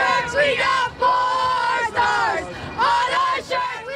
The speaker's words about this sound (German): Wir haben 4 Sterne auf unseren Shirts, singen die Fans und jubeln ihren Heldinnen zu. Auf dem Canyon of Heroes, dem Heldenweg durch die Hochhausschluchten von New York. Mit Fahnen und Fußballtrikots unter roten und blauen Sonnenschirmen.